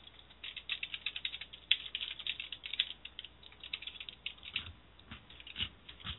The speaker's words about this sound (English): Yeah, and I'm totally crunching stuff in y'all's ear.